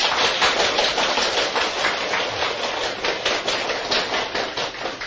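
Warm applause from a crowd welcoming a police officer at a Buddhist hall in Changhua County fills the whole stretch, a dense, steady crackle of many hands clapping at an even loudness, with no voices heard over it.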